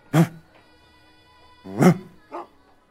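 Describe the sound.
A person imitates a dog barking, voicing a dog named Alexander in a story after it relieves itself outside a tavern and turns its ears: one loud, gruff bark, a pause, then a second bark followed quickly by a shorter, softer one. The voice is otherwise alone.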